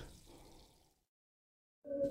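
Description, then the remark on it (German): Water is poured for a drink for about a second in a soft splash that fades to silence, then a brief ringing tone follows, like a glass being set down or clinked. “Hier mal ein Schluck Wasser.”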